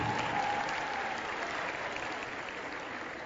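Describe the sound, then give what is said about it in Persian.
Sustained applause from an audience, a dense steady patter of many hands clapping at moderate volume, holding evenly throughout with no voices standing out. “پدر رو تشویق بکنید.”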